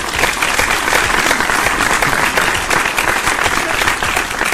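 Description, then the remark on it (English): A steady burst of applause, many hands clapping in a dense, even patter that stays loud and constant for several seconds with no voices over it. “I'll give you a round of applause for that.”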